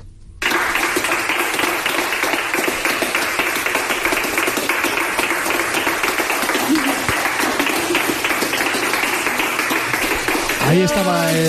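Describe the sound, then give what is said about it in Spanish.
A crowd breaks into loud, sustained applause as a mother and son leave the hospital in Manacor after 21 days in intensive care, carrying on steadily for several seconds, with scattered voices mixed in and a rising cheer near the end. “Ahí estaba ese aplauso.”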